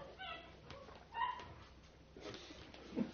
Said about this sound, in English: That little puppy out there barking.